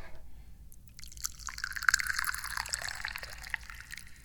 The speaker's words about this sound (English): I'm the chairman of the Dubious Goals Committee, and I'm pouring some tea.